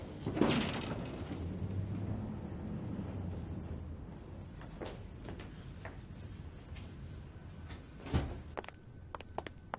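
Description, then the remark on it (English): A door is opened with a sharp clunk, followed by a low rumbling draft and scraping, then another knock and a few small clicks as it settles; no voices. “Don't be scared. Open the door.”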